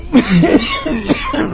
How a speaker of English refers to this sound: Why, is the moisture perhaps too much for your cough?